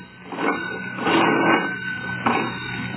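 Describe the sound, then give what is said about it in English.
An old hand-cranked telephone in a store rings in a long, rattling jangle, its bell trilling continuously with a few louder surges. No one speaks over it. “I've done hoisted and I'm now ringing.”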